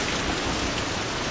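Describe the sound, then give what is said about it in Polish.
Heavy rain pours steadily onto a lake, a dense, even hiss of countless drops with a soft low rumble underneath, loud, with no voices. “Padanie na dużą wodę, na duży zbiornik wodny.”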